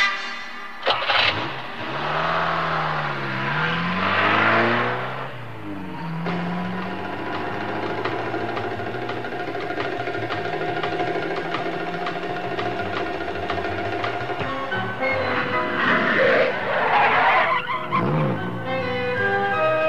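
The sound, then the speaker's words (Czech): A car engine cranks and catches, revs up with rising and falling pitch, then settles into a steady drone as the vehicle pulls away, with a brief surge of revving near the end. “Kde máš auto? Jedeme.”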